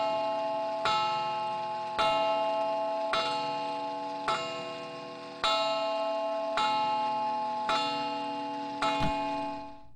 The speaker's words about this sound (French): L'horloge d'ébène sonne les 9 coups de l'heure.